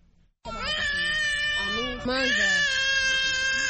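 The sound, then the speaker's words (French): A hungry baby in its mother's arms on the beach at Rumonge, Burundi, just arrived by pirogue from the neighbouring Democratic Republic of Congo, cries loudly, a sustained high-pitched wail that breaks only for a quick breath midway before resuming just as strongly. “Sur la plage de Rumonge, à une centaine de kilomètres au sud de Bujumbura, ce bébé dans les bras de sa maman vient d'accoster d'une pirogue qui vient de la République démocratique voisine.”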